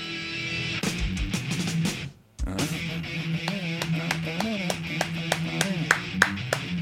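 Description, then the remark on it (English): Sharp hand claps keep time with a song playing underneath, clapping where the snare drum comes in, landing in a steady run of crisp, loud slaps. The music briefly cuts out before the clapping and tune resume together. “I just heard you clapping to the song.”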